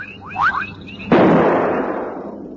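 A single loud rifle shot, fired at a lion and missing it, bursts out suddenly, its sharp crack trailing off into a long, fading rumble. Before it, a few faint rising chirp-like tones sound in a quiet background.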